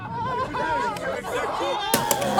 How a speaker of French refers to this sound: Ah, c'est la claque. Non, ce n'est pas Sarkozy, c'est Bayrou. Et voilà. C'est Bayrou